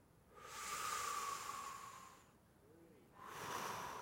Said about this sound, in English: Now that's a deep breath. I wasn't just to breathe. I mean, breathing's one thing. Taking a deep breath, that's a gift.